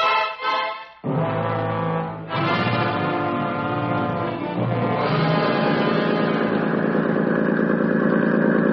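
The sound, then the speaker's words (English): A boat engine idles steadily in the middle of a strait, a loud, continuous low rumble with a throbbing harmonic drone that briefly dips early on before settling into an even, unbroken chug. No one speaks. “You will turn off your engine, please. In the middle of the strait here?”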